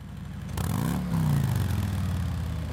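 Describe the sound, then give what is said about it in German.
A V-twin (V2) motorcycle engine, with both pistons running in step or offset only by the cylinder angle, starts up and runs with a deep, lumpy throb, revving briefly as the pitch rises then settling into a steady, loud idle. “Der besondere Sound kommt durch das Motorenprinzip. Ja, wir haben einen V2-Motor und haben beide Kolben gleichlaufend oder nur um den Zylindergrad versetzt.”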